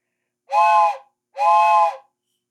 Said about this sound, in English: A train. Yeah. But what is it signaling? There's a code here.